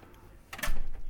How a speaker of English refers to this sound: Now, behind the storm door, there's a large steel door, which is the main door to the house, which I will now open.